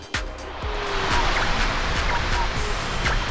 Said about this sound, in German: Erkennt ihr das Geräusch? Ein Ventilator. Wenn der Frischluft bringt, können wir den hier verdammt gut gebrauchen gerade.